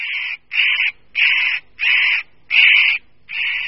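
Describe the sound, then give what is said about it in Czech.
A spotted nutcracker, a shy forest bird about the size of a slender jay, gives six harsh, rasping alarm calls in a steady rhythm, each a short grating burst, at the edge of a forest clearing in the Bohemian-Moravian Highlands. The calls are loud, with no other sounds. “Tímto osobitým způsobem se představuje jinak plachý lesní pták velikosti štíhlejší sojky, ořešník kropenatý.”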